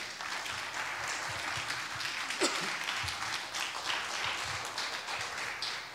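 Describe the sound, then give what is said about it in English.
A standing audience claps together in praise to God in a dense, steady wash of applause, many hands at once with no pauses, sustained and fairly loud for several seconds. “Give God a good praise clap today.”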